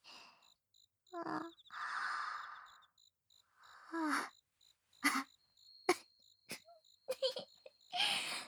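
Two people yawn together one after another on a camping trip, long breathy exhales rising into soft voiced sighs, with short breathy bursts following, while crickets chirp steadily in the background.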